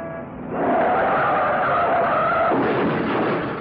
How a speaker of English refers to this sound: Oh, boy, that's all I need. Some jerk has crashed into the back of my cab.